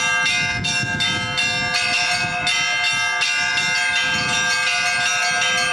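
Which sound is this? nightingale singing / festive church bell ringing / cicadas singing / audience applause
festive church bell ringing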